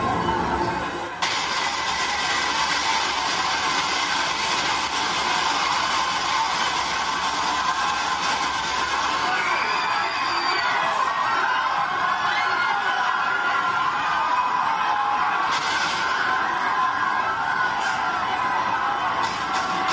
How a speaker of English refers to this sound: In this clip from Call of Duty 4, the player kills civilians in a Russian airport in this very controversial scene.